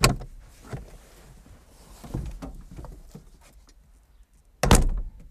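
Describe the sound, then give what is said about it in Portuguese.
A car door clicks open as someone gets out of the car, stopped in front of the city's old theatre building, followed by a few soft clunks and shuffling movements, then the door slams shut with a loud, solid thud near the end. No one speaks. “Agora precisamos sair desse carro.”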